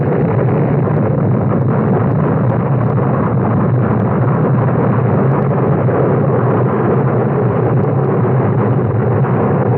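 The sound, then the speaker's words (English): A loud, sustained explosion roar from a buildup of gases rumbles steadily for the whole stretch, deep and dense with no clear pauses or distinct bangs, and no voices over it. “Come by earlier and set up the explosion?”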